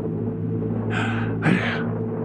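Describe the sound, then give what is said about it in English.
Howling storm wind on an old tape recording: two short, scratchy whooshing gusts rise over a constant low hum and background hiss, moderately loud, with no voices. “The howling wind sounded more like a scratching record on the old tape.”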